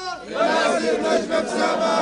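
A Palestinian crowd chants in unison at a rally in Hebron in support of Palestinian prisoners' demands, many voices shouting together in a loud, sustained, rhythmic swell with no break in the noise.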